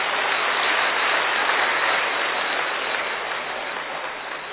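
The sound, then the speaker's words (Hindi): Sustained applause from an audience, a dense, steady wash of clapping that holds for several seconds and gradually tapers off slightly toward the end, with no voices over it. “पहले तो आप सभी विशेष में विशेष आत्माएं हैं, अपने सौभाग्य के लिए तालियां बजाइए।”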